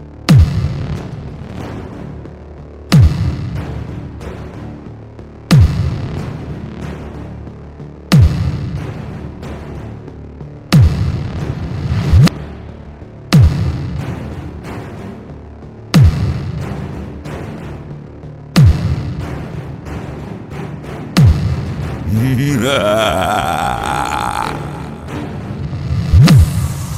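A series of loud explosion booms repeats at a steady pace, about every few seconds, each with a rumbling decay. Near the end, a rising whistling tone sweeps over the blasts. No one speaks.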